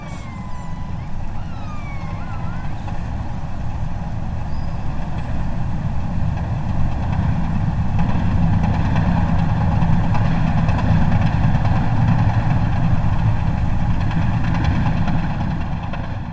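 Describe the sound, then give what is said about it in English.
An Arctic icebreaker recorded underwater by hydrophones 12 kilometers away: a steady, heavy low rumble with dense, rapid hammering pulses and faint tonal hums layered above, holding a constant loudness throughout. “These are the hammering pulses made by an Arctic icebreaker 12 kilometers from my hydrophones.”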